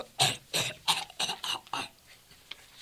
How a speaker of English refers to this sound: I need something to stop this cough.